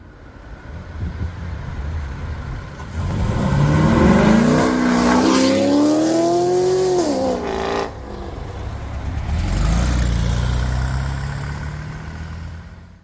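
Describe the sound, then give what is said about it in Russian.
A powerful engine of a car reworked by a tuning studio revs hard, its pitch climbing and falling in a sustained roar before dropping back and surging again, loud with no one speaking. “Работа тюнингового ателье «Карман» о том, что это за машина, можно догадаться только на слух.”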